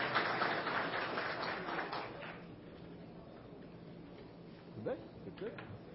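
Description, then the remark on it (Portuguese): A crowd at a meeting applauds the delegation from Mimoso de Goiás with a dense burst of clapping that lasts about two seconds and then fades away, leaving quieter murmuring voices afterward. “Ó, salve de palmas para Mimoso.”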